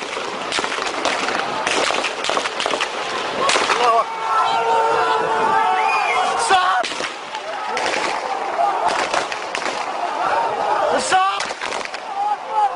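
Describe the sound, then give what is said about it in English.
A crowd of Syrian protesters shouts and chants in the street, including shouts of "God is great," while sharp, cracking gunshots from government forces ring out repeatedly, some in quick bursts and others spaced apart, loud over the din of raised voices. “Syrian protesters out in the street. As you can hear, so were government forces.”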